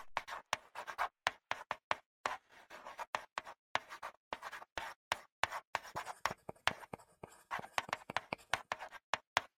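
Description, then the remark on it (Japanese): Quiet rustling of paper handouts being passed along, a rapid series of crisp crinkles and sliding sheets in irregular bursts, with no voices. “ねえ、プリントだって。回して。”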